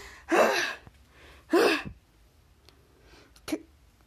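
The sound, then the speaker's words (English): Two loud, harsh breathy gasps in quick succession, followed after a pause by a shorter, fainter intake of breath. A voice acting out a nurse in a story desperately gasping for air after getting out of the thing she was stuck in, with no talking. “And she gasps for air.”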